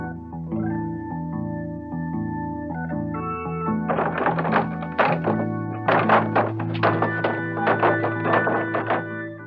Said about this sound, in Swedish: Nere vid hamnen bor några sjörövare. De öppnar inte för vem som helst, bara för de som kan den rätta knackningen. Det kan vargen.